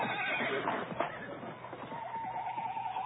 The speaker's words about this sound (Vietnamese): Sư phụ tôi vội vã bước đến, dắt theo hai con ngựa. Mỗi con có buộc một túi thuốc lớn. Chúng tôi nhảy lên ngựa, phi nước kiệu qua đường phố Linker.